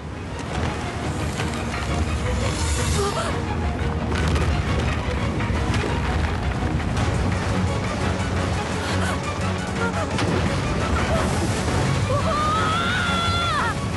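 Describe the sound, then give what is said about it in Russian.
Heavy waves crash and slosh against rocks in a continuous, loud roar with deep booming surges, and a brief high whistling tone rises near the end. “Скалы меняются под натиском волн.”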